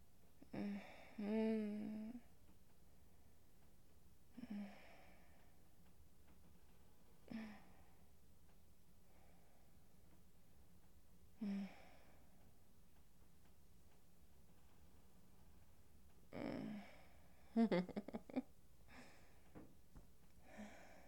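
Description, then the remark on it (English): Heavy breathing comes in slow, uneven breaths a few seconds apart, some with a faint voiced sigh. A quicker cluster of gasping breaths arrives near the end against a quiet background. “Okay, you're probably sick of hearing me breathing, so I'm gonna stop recording now.”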